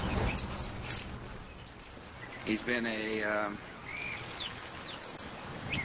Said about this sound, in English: I'm glad they mic those birds close. Yeah, I think they hype them. I think they magnify them so that it all sounds kind of cute.